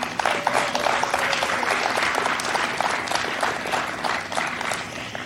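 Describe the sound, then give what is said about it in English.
Steady, dense applause fills the whole stretch, with a woman's high, enthusiastic cheers and whoops rising repeatedly above the clapping crowd. “By the way, I love the one random woman in the background that's acting like she's at a high school cheer competition.”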